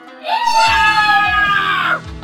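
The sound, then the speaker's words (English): A single loud, anguished scream rings out, held for nearly two seconds with a strained, wavering pitch before cutting off, with no other voices around it. “Kitsuki Akira has heard this chat, this scream, and can now make a bit of time to get around.”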